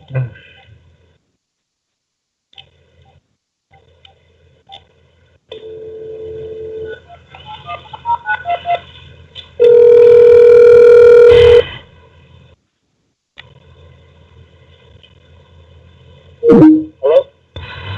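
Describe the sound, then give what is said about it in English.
A Skype call to a new phone number is retried: a steady dial tone hums, followed by a quick series of dialing beeps and then a loud, sustained ringback tone, ending with a brief burst of line noise. “and usually I am better at this engineering stuff than that, but I tell you, sometimes with Skype and a new phone number, it's just very difficult. So, here we go, I'm trying again.”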